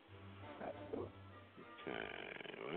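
A long, drawn-out burp rumbles into the microphone, starting low and croaky, then swelling into a louder, rougher belch near the end.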